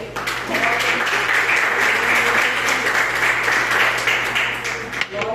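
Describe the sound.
A church audience claps steadily to praise the Lord, a dense, loud wash of many hands lasting several seconds, with a low steady hum underneath and faint voices mixed in.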